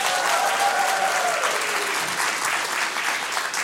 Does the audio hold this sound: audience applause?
yes